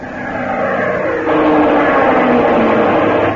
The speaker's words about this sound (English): Plane diving at 5 o'clock.